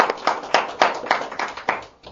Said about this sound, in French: Vous êtes du côté de Dieu. Si vous êtes du côté de Dieu, vous applaudissez. Allez plus fort que ça.